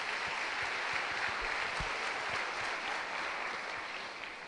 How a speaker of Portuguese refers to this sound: Uma salva de palmas.